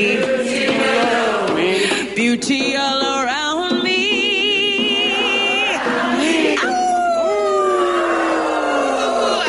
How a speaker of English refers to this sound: I love the coyote.